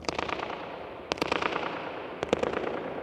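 Sharp hand claps on the floor and a foot bang ring out inside a dome in three quick bursts, each trailed by rapid, fluttering echoes that bounce around the large, hard, domed space and are focused back before fading.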